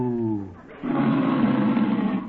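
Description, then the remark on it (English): A voice imitates the moo of Bossy, a cow being milked: a low, steady humming tone that breaks into a loud, rough, roaring bellow lasting over a second, with no other talk. “Well, does your cow give much milk?”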